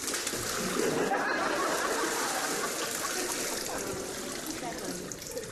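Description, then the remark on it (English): Steady rushing and splashing of river water fills the scene, fairly loud, with continuous bubbling texture and small irregular splashes as someone washes in the river. “Okay, fine, I'll wash in the river.”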